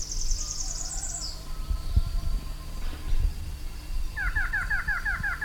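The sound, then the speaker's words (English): A variable antshrike, about 30 feet away, calls at 2:47 p.m.: a fast high trill at the start, then later a steady run of repeated, clipped mid-pitched notes, over a low rumbling background with no talking. “That's a variable antrike, which I did not state.”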